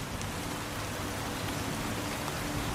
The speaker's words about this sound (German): Der Regen spielt dazu sein Lied. Tropfen für Tropfen.